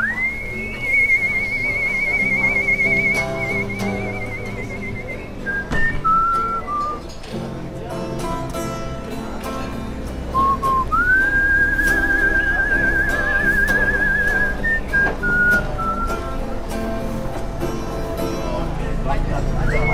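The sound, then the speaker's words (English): A whistling musician from Chicago, in 2007 in the streets of the capital, whistles a melody over steady instrumental backing, holding long, clear high notes that bend slightly, broken up by short, quick whistled phrases in between. “notre ami siffleur de Chicago, à qui on a déjà consacré un tri sélectif il y a quelques mois.”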